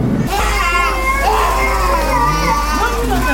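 Several young children cry and wail at once in a busy, echoing hospital ward, their high, wavering voices overlapping continuously with no pauses.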